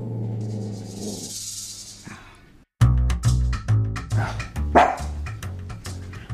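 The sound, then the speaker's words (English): After a few seconds of low droning hum, a dog breaks into a rapid run of loud barks, one after another in quick succession, with no voices. “So I didn't tell you about the dogs.”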